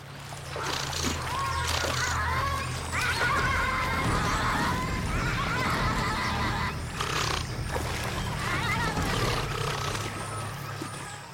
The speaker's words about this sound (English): And this and the other like 14 videos I subsequently watched taught me that a brawl with giant river otters sounds a lot like the worst game of Marco Polo.